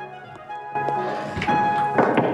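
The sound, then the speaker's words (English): Footsteps of a man walking along a corridor and a few sharp knocks on doors, heard as irregular, fairly loud thuds over a steady humming background, growing busier toward the end. “A man walks along a corridor, knocking on doors.”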